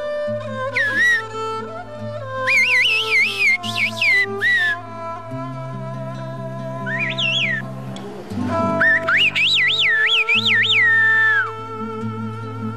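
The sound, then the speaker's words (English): Bursts of sliding, warbling whistles trade back and forth like a whistled conversation between whistlers of the village of Kuskoy, pausing between phrases, over a steady low sustained musical drone; no one speaks. “Sometimes it's hard to tell when the champion whistlers of Kuskoy start chatting.”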